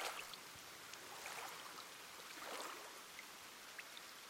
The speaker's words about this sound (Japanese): それにしても雨、まだ止まないね。